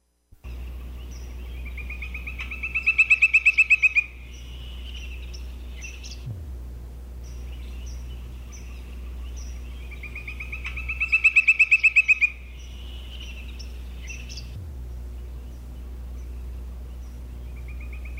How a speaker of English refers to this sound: Woodpecker's song.